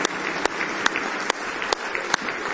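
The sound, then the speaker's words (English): An audience claps their hands in praise, giving the Lord a big hand clap at a Christian service, a dense, steady wash of many hands with a few sharper, louder claps standing out at regular intervals throughout. “Now give the Lord a big hand clap of praise.”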